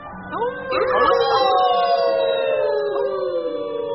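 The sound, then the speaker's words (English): A pack of wolves in the snowy Canadian mountains, among fir trees, howls together, several long, wavering voices rising and sliding over one another in a sustained, loud blend that holds steady for the whole stretch. “High in the bleak Canadian mountains, where the unyielding snow lies thick on the fir trees, lives a pack of wolves.”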